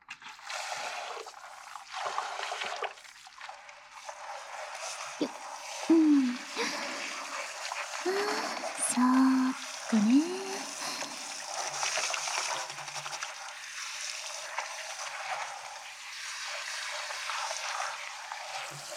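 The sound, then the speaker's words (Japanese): Water runs in a steady, hissing stream throughout as suds are rinsed off before washing a second time, with a few brief voiced sounds and small splashy bursts in the middle. “流してもう一回洗うよ。”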